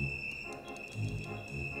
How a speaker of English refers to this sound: You've got a steamboat whistle. Birds,